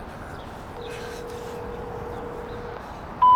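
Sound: phone call ringing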